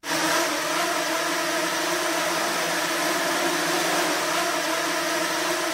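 A swarm of 20 nano drones from Vijay's lab at the University of Pennsylvania buzzes without pause, a dense, steady whir of many overlapping high-pitched hums that holds an even loudness throughout, with no voices.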